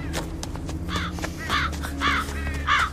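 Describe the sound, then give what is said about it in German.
Crows caw harshly in a loose series of about four calls, loud, drawn to something in a hollow in the ground ahead, with a steady low rumble underneath and no one speaking. “Was immer die Vögel anlockt, ist vor uns in der Bodensenke.”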